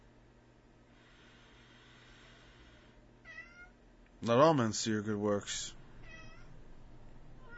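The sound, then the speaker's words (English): A cat lets out a loud, drawn-out meow, bracketed by a couple of softer chirping mews, while a man speaks quietly in the background. “Go away, cat.”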